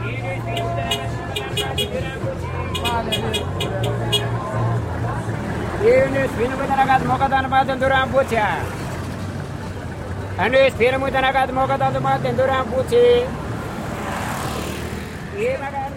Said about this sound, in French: les vendeurs, les marchands de bread et des fruits et tout ça arrivent avec leurs pousse-pousse et leurs charrettes et qui croisent avec les bus qui commencent le matin et avec les taxis et les voitures, les motos. Et ça donne le mélange.